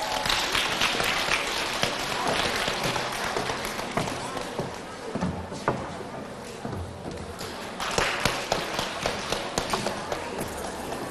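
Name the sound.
warm audience applause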